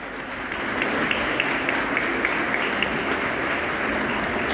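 Sustained applause from an audience at a ceremony honoring a man for an award he received, a dense steady wash of many hands clapping at an even loudness throughout, with a few sharper claps standing out and no speech.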